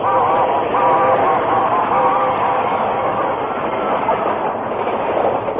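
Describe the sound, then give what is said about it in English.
A steam locomotive train races past in a cloud of steam, a loud, steady roar of chugging and hissing with faint whistle-like tones near the start. “A train raced by, enveloping the Lone Ranger, Tonto, and the unconscious man in a cloud of steam.”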